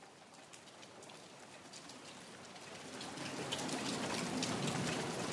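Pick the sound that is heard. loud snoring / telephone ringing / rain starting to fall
rain starting to fall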